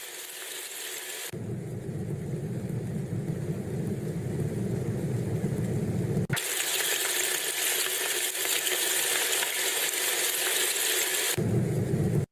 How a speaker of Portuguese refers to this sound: Ah, 658 motores DC, deve ser de contínuo, né? Aqueles que você liga na luz, preparados com bolas de algodão e caixas de papelão, cardboard.